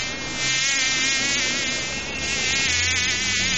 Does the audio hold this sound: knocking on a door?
no